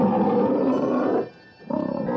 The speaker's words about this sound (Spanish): De pronto se escuchó un rugido aterrador.